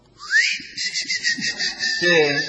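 A cricket's mating call: a high, rapid pulsing trill over a steady whistle-like tone that rises in at the start and holds for a couple of seconds, with voices murmuring underneath.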